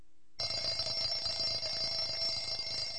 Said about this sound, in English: The alarm goes off, but James is already up.